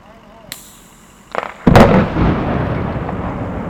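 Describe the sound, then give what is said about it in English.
A couple of sharp cracks, then a loud detonation from airbag or pillow detonators used in CDOT rock scaling, blasting apart rocks perched on cliffs, followed by a long rumbling roar of crumbling, tumbling debris that fades only slightly. “CDOT's rock scaling operations are using airbag or pillow detonators to break up the rocks still perched on the cliffs.”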